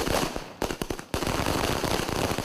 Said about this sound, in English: In a remote area in Vavuniya, about 40 miles away from the war front, villagers light firecrackers to celebrate the recapturing of Kilinochi.